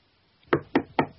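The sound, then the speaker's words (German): A woman knocks on a door: three firm knocks, evenly spaced about a quarter second apart, clear with nothing else in the background. “Sie klopft an die Tür.”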